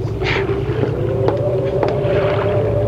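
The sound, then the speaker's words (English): A small boat rocks on the water, with a steady low rumble and wind noise throughout and a few sharp knocks and creaks scattered along the way. “Hold that boat steady.”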